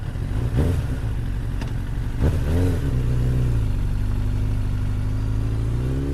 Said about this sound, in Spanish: Luego me subí a la moto y me fui directo de ahí.